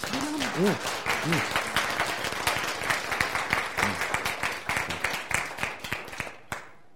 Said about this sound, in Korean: 박수.